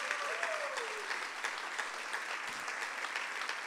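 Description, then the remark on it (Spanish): Sustained audience applause at a church service for the young people leading worship, a dense steady wash of many hands clapping at an even loudness for the full few seconds, with a faint tone sliding briefly underneath near the start. “Así que denle un aplauso a esos muchachos que se están esforzando.”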